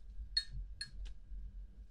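Glasses clink together in a toast: two bright, ringing chimes followed by a quicker, duller tap, over a low background hum with no talking.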